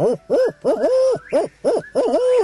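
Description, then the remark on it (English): A person imitates a barred owl call through cupped hands at sunset in the Ozark hills: a loud series of throaty, wavering hoots in quick rhythmic bursts, some drawn out into longer trailing calls. “I cut my hands and call like a barred owl.”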